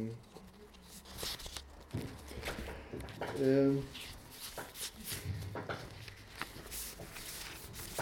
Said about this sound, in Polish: składając te kartki, zgubiłem stan.